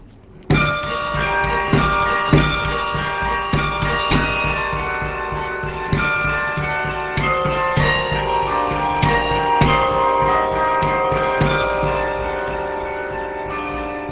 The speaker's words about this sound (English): Would you play us something to sort of show us how a bell, when you play it for a moment, how it just doesn't go away? Sure.